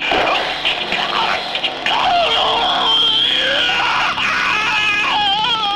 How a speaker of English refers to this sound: That was a good scream. You know it. Now we've got it on tap.